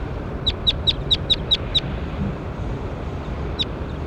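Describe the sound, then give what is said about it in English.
A bird, logged as bird 21 in a recording session, gives a quick run of seven sharp, high chirps in steady rhythm, then falls silent before one more chirp, all over a low, rumbling wind-like background. “That was bird 21.”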